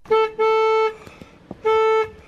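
Three loud car horn honks from the car of Fergus Cullen in Hayes, Navan: a quick blip, then a longer blast, a pause, and one more medium-length toot, with no one talking.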